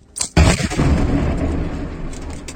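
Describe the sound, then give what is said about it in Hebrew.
A single heavy controlled detonation, set off after a countdown and confirmed as a proper blast, erupts with a sharp onset, then a long rumbling roar and debris-like crackle that slowly fades over a couple of seconds, loud, with no voices. “פסל תקין זה, למי שלא יודע, פיצוץ תקין, כן. אתה שומע שהוא מפסוץ.”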